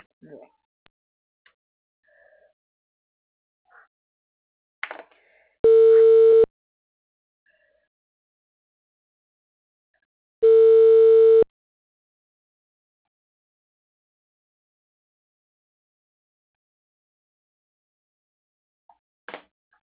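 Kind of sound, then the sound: signal or alarm, telephone busy signal tone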